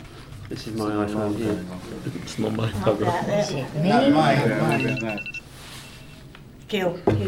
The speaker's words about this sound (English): Oh, it's somebody ringing. That's what it's. How dare they? How dare they ring on a phone?